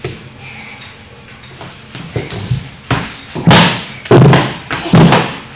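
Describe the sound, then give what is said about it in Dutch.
A chair for a doll is set down with several heavy wooden thuds, knocking against the floor in quick succession, loud, after some quieter shuffling and scraping. “Zo, die stoel die staat.”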